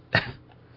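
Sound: coughing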